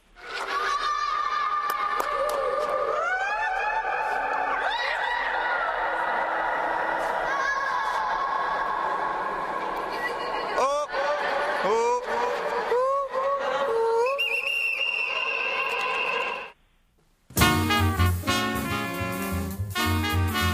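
A crowd of Indian visitors shrieks and whoops in overlapping high, sustained cries, each smeared into a long ringing echo inside a vast mausoleum with a huge dome, loud and continuous until it cuts off abruptly.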